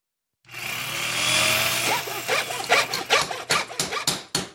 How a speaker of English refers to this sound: What's all the hammering for? Oh, that's right. It's our series Nuts and Bolts.